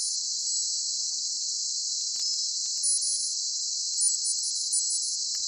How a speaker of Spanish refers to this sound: Lo escuchas, ¿no? Incómodo, ¿verdad? Bueno, pues imagínate que este pitido, este sonido, te acompaña las 24 horas del día.